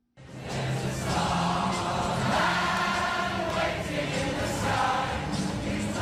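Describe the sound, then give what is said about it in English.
A large crowd of admirers sings together at a memorial sing-along in Brixton, London, many voices blending into a loud, continuous wash of sustained melody, with an open-air feel throughout. “Across the Atlantic in London, admirers there held a sing-along in Brixton, the section of the British capital where the singer was born in 1947.”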